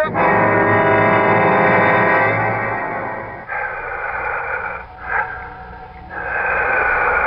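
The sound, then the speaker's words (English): Loud, raspy heavy breathing fills the space, drawn out in long rushing inhales and exhales with brief pauses between, continuous with no talking. “It sounds like the whole room is breathing.”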